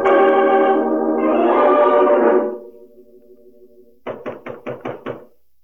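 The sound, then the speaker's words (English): A sustained swell of dramatic music fades out, then after a pause comes a quick series of about six firm knocks on the wooden door of a hut, clear. “Answer to my knock.”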